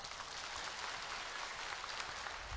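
Steady applause from a crowd, a dense crackle of many hands clapping at an even, sustained level throughout, with no voices over it.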